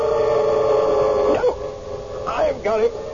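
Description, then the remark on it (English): A small white dog with a curly tail gives a few sharp, wavering yelps in quick bursts at a busy intersection, heard over a steady droning background hum. “Little white dog, curly tail.”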